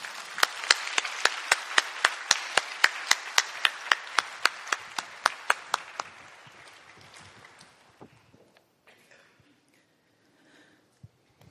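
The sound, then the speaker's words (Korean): A church audience claps in steady unison to welcome a testimony speaker coming forward, a fast even beat of sharp claps for about six seconds, then the applause thins into a few scattered claps before falling quiet. “나오실 때 박수로 맞이해 주시길”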